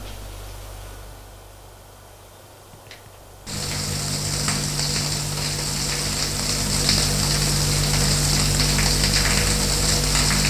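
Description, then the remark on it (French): A man's shower suddenly turns on in a white-tiled bathroom after a few seconds of quiet hum, then water streams steadily and loudly, a dense hissing spray with a low droning undertone, and no voices. “Il prend sa douche.”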